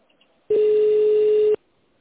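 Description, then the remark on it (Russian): A single steady electronic beep from the answering machine of a drug-safety reporting phone line, signalling the caller to leave a message, loud and flat-pitched, lasting about a second before cutting off abruptly into near silence. “нажмите 0 и оставьте сообщение после сигнала.”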